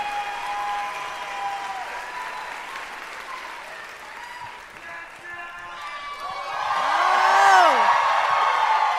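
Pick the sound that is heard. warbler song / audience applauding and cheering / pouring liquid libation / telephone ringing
audience applauding and cheering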